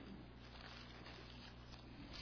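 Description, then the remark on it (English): Steady rain drums on a roof, a dense, even hiss of countless drops with a low hum underneath. It stays constant throughout, fairly soft and heard from indoors, with no one speaking. “How many of you hear that rain on the roof?”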